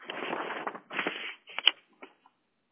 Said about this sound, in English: Trying to get my paper straight.